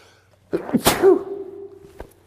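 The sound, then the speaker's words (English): A single loud sneeze: a quick sharp intake, an explosive burst, then a short trailing voiced tail and a faint click, with no talking. “Have you ever had a sneeze that you've been waiting and waiting and waiting for it to come?”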